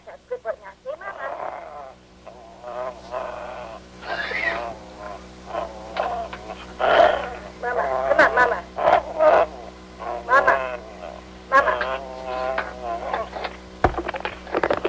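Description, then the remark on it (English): A small Lhasa Apso dog named Raider, taught by its owner to say "mama," makes a string of warbling, moaning vocalizations that rise and fall like an attempt at saying "mama," moderately loud, over a steady low electrical hum. “Okay, listen close as Raider says Mama.”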